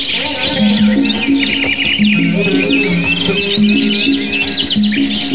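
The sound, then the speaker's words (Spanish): A lively chorus of many birds perched in leafy trees, chirping and singing at once, with quick overlapping tweets and trills that continue steadily throughout over a soft low background hum. “Se posaban a su sombra verde y desde allí cantaban lindas y dulces canciones.”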